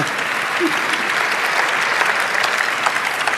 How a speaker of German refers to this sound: Vielen Dank. Das ist dein Applaus,